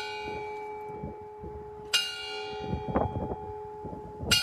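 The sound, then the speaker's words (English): Church bells toll across the United States in remembrance of Americans lost to COVID, with sharp, bright strikes at a slow, steady pace, each ringing out into a long humming resonance over a low murmur of background noise. “Biden finished his remarks, the pool between the Washington Monument and the Lincoln Memorial glowed with 400 soft lights that sparkled off the water as bells tolled across the nation.”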